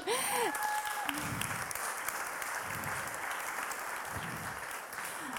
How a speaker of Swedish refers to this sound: Och nu har vi tre konfirmander. Vill ni komma upp? En applåd.